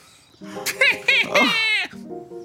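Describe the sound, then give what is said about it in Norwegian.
A voice imitates a cat, giving a short run of drawn-out, wavering meow-like cries, loud and strained, followed by a quieter bit of voiced sound. “Hjelp, hjelp, mjau.”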